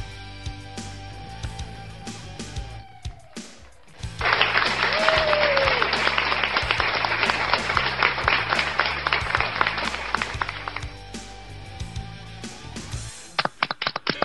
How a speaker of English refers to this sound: How about that? I know I hear the cheering. I hear it.